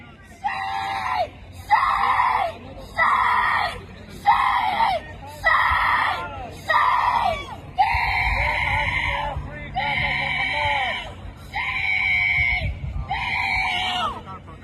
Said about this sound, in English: We have some yelling here happening on the Gaza encampments. Let's see.